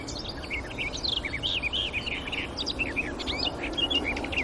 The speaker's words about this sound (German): Da hören wir sie. Bieb, lieb, lieb, lieb, blablabla, blablabla, blablabla, blablabla. Das hohe Pfeifen der Nachtigall.